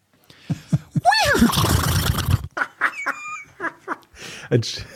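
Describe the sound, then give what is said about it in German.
A person gives a loud, convincing horse whinny with a wavering, descending pitch lasting about a second and a half, followed by brief chatter and laughter from others. “Dass ich sehr gut einer. Ein Pferd nachmachen kann.”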